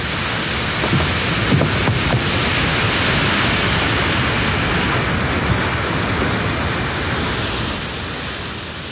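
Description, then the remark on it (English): A continuous, loud roar of water rushing over a weir on the River Thames, a dense, hissing wash that holds steady for the whole stretch and eases off slightly at the very end. “The weir swallows all.”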